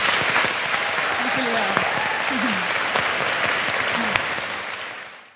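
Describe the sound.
Steady, dense audience applause to thank a guest after an on-stage conversation, sustained throughout, many hands clapping at once, with a few brief voices or cheers rising through it before it fades out at the end.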